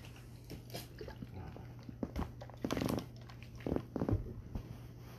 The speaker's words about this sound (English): Sorry, I'm gonna take a water break here in this awkward moment.